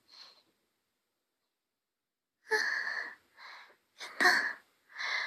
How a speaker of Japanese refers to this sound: すごい息切れてるんですけど、ここまで長い時間聞いてくださってありがとうございました。